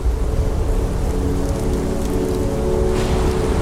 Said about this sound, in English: Rain had been battering the Hunter for days. But that night, an intense low pressure system charged up the coast, unleashing cyclonic winds and thumping waves.